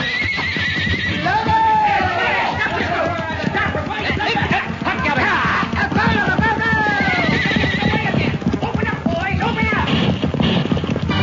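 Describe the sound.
Horses whinny several times, shrill and loud, over a steady, rapid clatter of hooves clip-clopping, with voices mixed into the busy, continuous commotion.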